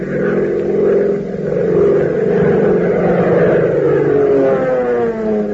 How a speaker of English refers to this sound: Fellas and girls, as you listen to the roar of Hop Harrigan's plane as he brings it in, doesn't it make you think of Uncle Sam's fighters and bombers that are right this minute making the Nazis and Japs wish they had never started this war?